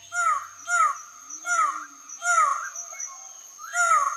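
A loud, harsh bird call repeats about five times in steady rhythm, each note a coarse descending squawk, ringing out clearly with no talking over it: a male black, purple and yellow twelve-wired bird of paradise calling from his display post at the top of a 25-metre tree in a misty valley forest.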